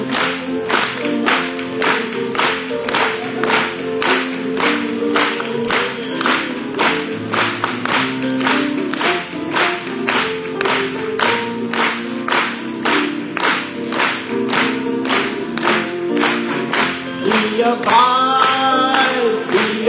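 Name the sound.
audience clapping in rhythm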